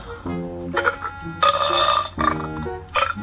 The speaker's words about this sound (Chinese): 突然，地面上传来了河马打嗝的声音。